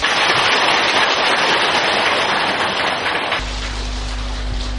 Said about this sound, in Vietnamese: Trước khi Đại Đức đăng đàn, xin một tràng pháo tay nữa.